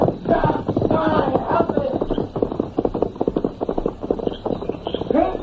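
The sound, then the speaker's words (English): Horse hooves clip-clop in a quick, steady rhythm, moderately loud, with rustling movement and a few brief vocal sounds mixed in, as riders leave on horseback, one of the horses being Silver. “Get on that horse.”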